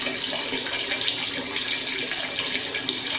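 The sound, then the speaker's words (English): A long, unbroken stream of urination, a steady hissing splash of liquid with no pauses, holding an even loudness the whole time, with no voices over it. “Long, never-ending pee, this.”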